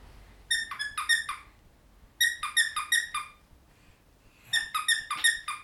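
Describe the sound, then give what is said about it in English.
A chicken named Chirpy chirps in three quick bursts, each a run of four or five high, bright peeps, separated by short pauses. The chirping is clear, with no talking. “Chirpy the chicken.”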